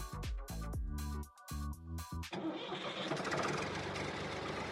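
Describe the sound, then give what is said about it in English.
A tractor engine starting up: the starter cranks in several uneven bursts for about two seconds, then the diesel catches and settles into a loud, steady, rumbling idle. “Dis donc, tu t'es fait ch**er au volant de ton John ? Eh bien, allumez votre radio, car de 13 à 14 heures, ça groove dans le tracteur”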